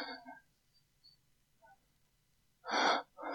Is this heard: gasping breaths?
yes